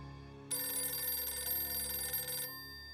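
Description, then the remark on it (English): A telephone bell rings once in a single sustained burst of about two seconds, loud, then cuts off into silence with no one speaking: a phone call for cadet Richard Cox at West Point, answered in the Company B-2 orderly room, on the afternoon of January 7, 1950. “That afternoon, Cox received a phone call from a man claiming to be his old friend.”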